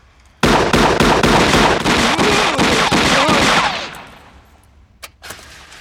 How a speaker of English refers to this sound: Hawk, Andy. Rapid fire.